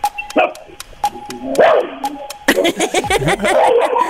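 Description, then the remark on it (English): A dog barks repeatedly, a quick run of sharp yaps and yips mixed with whiny, higher-pitched cries, loud with no one talking. “You are right. And so's your dog.”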